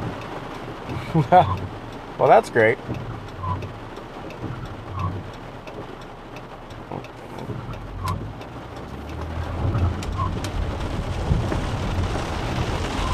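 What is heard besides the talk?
heavy rain falling outside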